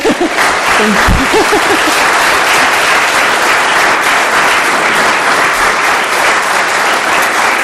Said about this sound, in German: Jetzt wollen wir mal ganz viel klatschen.